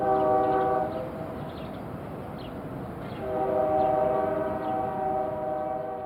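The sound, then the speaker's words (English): A train horn blasts with stacked harmonic tones, pauses, then sounds again for several seconds over a steady rumble and clatter of rail cars rolling through an industry train yard in La Puente. “I was raised in La Puente, blocks from the industry train yards. This was the sound I fell asleep to every night.”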